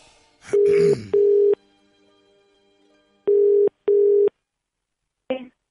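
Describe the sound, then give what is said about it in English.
A steady phone ringing tone, heard after a number is dialed, plays in two pairs of short buzzing bursts, a double-ring pattern with a pause between pairs, clear. A faint rustle comes at the start and a brief click at the end. “If I hit dial.”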